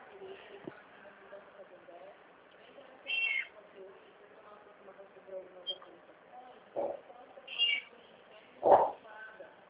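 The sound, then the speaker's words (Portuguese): A cat meows several times in short, scattered bursts, the last one loudest, over a low murmur of background voices. “Gato, para com isso.”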